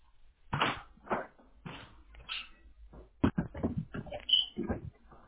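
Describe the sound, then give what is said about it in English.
A small Shih Tzu dog moves about, with a series of soft thumps, scuffs and shuffling bursts, and a brief high-pitched whimper near the end. No one speaks. “You have dogs? Yeah, it's kind of Shih Tzu.”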